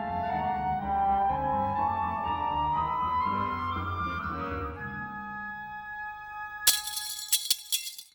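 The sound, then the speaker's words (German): After a sustained, rising tonal drone, a burst of bright metallic clinks rings out near the end, small steel plates dropped in a quick cluster to imitate shattering window glass. “Klirrende Fensterscheiben, bei einem Einbruch etwa, imitierte ich mit kleinen Stahlplättchen, die ich fallen ließ.”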